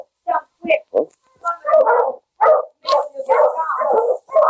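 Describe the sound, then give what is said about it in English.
A sled dog team, driven by Sergeant Preston of the Northwest Mounted Police along the trail bordering the river near Selkirk, barks and yips excitedly, short sharp bursts at first, then longer overlapping yelps, with a steady high hiss starting partway through. “Sergeant Preston of the Northwest Mounted Police drove his dog team along the trail bordering the river near Selkirk.”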